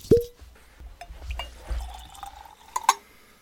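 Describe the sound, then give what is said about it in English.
Whisky is poured into a Glencairn glass, opening with a sharp clink, followed by a gurgling, rising fill and a couple of light glassy taps near the end. Fairly quiet, with no talking. “Well, shall we pour another and add a drop or two?”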